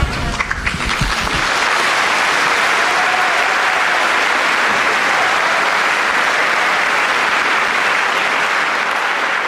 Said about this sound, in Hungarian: Ha valaki nem sikerült képekben kövesse az audienciát, az most a taps viharpól azért következtethette, hogy rengetegen vannak valójában, ha jól láttam, akkor teljesen zsúfolásig megvan telve a 6. Pál terem.